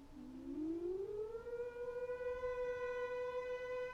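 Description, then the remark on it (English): A civil defence siren sounding the all-clear after the danger of air attack or fallout has passed winds up from a low pitch and then holds one steady, unwavering tone, loud and continuous with strong harmonics, no speech over it. “When the immediate danger of an air attack or fallout has passed, the siren will sound on a steady note like this.”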